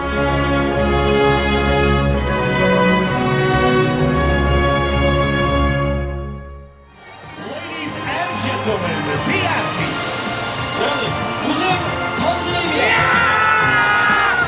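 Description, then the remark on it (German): Sustained, swelling tonal music gives way after a brief dip to a loud roar of crowd cheering as the German team wins a triple victory in Nordic combined, with whoops and yells rising and falling across the second half. “Ein Jubelschrei wie aus einer Kehle.”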